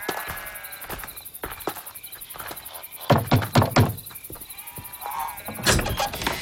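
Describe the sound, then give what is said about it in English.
A few soft footsteps approach, then a burst of four or five firm knocks on a wooden door of a house, with crickets chirping steadily in the background. “Should we knock on the door?”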